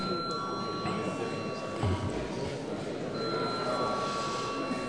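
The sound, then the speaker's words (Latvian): The Saeima (Latvian parliament) voting bell rings steadily for several seconds to call a vote, a continuous metallic electric tone over a low murmur of voices and shuffling. “Līdz ar to lūdzu zvanu.”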